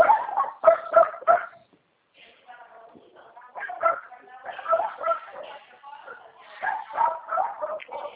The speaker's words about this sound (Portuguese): E aquele monte de cachorrinho ali na casa? Um monte de cachorrinho novinho ali na casa, espremido na grade.